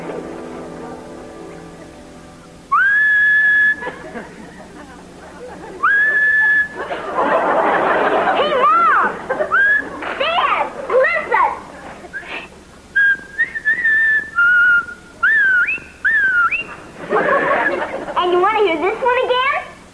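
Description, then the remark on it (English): A person whistles several loud tones, some held steady and others sliding up and down in pitch, broken up by bursts of giggly chatter and laughter. “Maybe this is going to be my day to whistle.”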